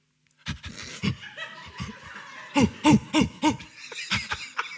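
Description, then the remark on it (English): A person mimics an owl, letting out a quick run of four close, rhythmic hoots after some breathy, panting vocal sounds, with a couple more hoots trailing off at the end. “It's a very good owl. There's no debating it's a good owl.”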